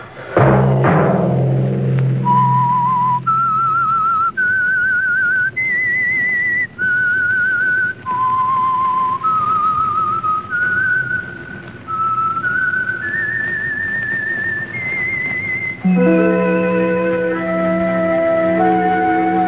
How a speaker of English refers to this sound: That whistle be your signal for the Signal Oil program, The Whistler, each Monday at 8.